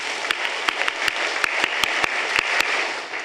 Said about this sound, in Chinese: 咁我哋有啲群体咧会拍一个。鼓掌的方式呢叫做爱心鼓励。试拍一次，有没有识的就跟我一起来，预备1、2、3。